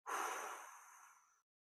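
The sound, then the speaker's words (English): A single long, airy exhale during a box breathing exercise, breathy, starting strongly and gradually tapering off over about a second and a half before stopping abruptly into silence. “Hold it. 1, 2, 3, 4. Out with it.”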